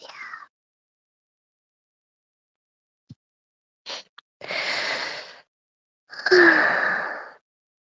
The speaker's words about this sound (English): You hear me snoring.